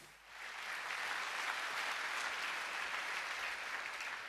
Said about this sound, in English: Thank you. So applause also goes to my wonderful colleagues, which are standing over there.